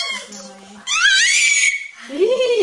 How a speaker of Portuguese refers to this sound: Que a satisfação são estes gritos. Uhum. Estes gritinhos são satisfação.